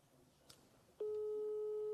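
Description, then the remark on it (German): An outgoing phone call's ringing tone: after a second of quiet hiss, a steady mid-pitched electronic tone switches on and holds, loud and unbroken, to the end. “Es hat jetzt schon öfters geklingelt, ist auch wichtig.”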